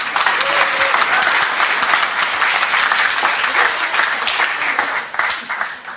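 A crowd claps steadily and loudly, a dense wash of many hands that holds for several seconds before beginning to thin out and fade toward the end.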